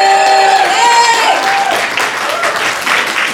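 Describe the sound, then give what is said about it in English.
A crowd bursts into loud, sustained applause for the winners of a cosplay costume contest, dense clapping, with a few high whistled or cheering tones rising briefly in the first second and a half. “Round of applause for all of our winners!”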